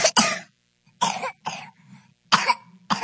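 A whooping cough (pertussis) fit: five or six harsh, forceful coughs in quick succession with short gasping pauses between them, loud, with no talking.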